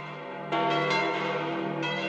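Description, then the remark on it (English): The bells of Westminster Cathedral ring out at midday in a full, resonant peal for the reception of the new Archbishop of Westminster, with fresh strikes layering over the lingering hum of earlier ones. Loud and sustained, with no voices. “At midday, the bells of Westminster Cathedral rang out across the city and a fanfare was played as the Archbishop knelt at the threshold for the start of a pontifical mass for his reception as the 11th head of the Diocese of Westminster”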